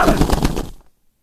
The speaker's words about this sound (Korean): 나는 악에 바친 고함을 지르듯 그 이름을 부르고 또 불렀다. 놀란 새들이 파드득 날아오를 뿐.